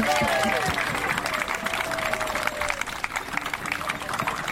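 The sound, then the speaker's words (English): An audience claps steadily throughout on a hot day, a dense wash of many hands applauding the nurses and medical doctors on hand, with voices and a brief whistle-like cheer mixed in near the start. “So let's give them a round of applause for all their help.”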